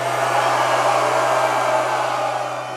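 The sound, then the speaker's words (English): A loud, sustained roar from the men in a concert crowd on a Monday night, a dense wall of shouting that holds steady for a few seconds over a constant low hum, with no distinct voices standing out. “Now let me hear the fellas in here roar!”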